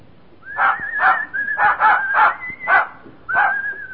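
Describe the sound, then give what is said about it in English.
A dog, greeted as Pooch, in the Seldons' home in the radio play All This and Heaven Too, gives about six short, yappy barks in quick succession, with a thin, high-pitched whimpering whine running between them. No one speaks. “Hello, Pooch.”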